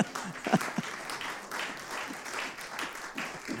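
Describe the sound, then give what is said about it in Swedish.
An audience breaks into applause, a dense, steady patter of many hands clapping at moderate volume for a few seconds, with a brief voice or two audible at the start. “Kan vi få en applåd på det för att män.”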